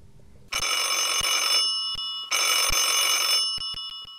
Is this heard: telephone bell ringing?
yes